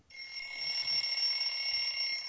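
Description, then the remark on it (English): An electronic alarm clock rings continuously at a steady, shrill pitch, fairly loud, with no talking over it. “There's your alarm clock.”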